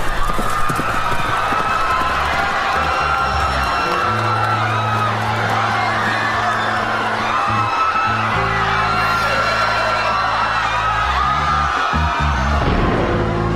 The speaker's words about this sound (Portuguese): Os estudantes pegaram uns pedaços de madeira das obras da região e começaram a simular a agressão da polícia nos dias anteriores. Aí a cavalaria chegou e aquilo deixou de ser uma simulação.